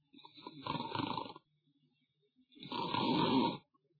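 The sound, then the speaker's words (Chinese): A voice imitates the snoring of sleepers inside a closed room: two long, rumbling snores, each about a second and a half, separated by a quiet pause. They are fairly loud, with a raspy, throaty texture. “摘耳侧听，里边也传出打呼噜的声音。”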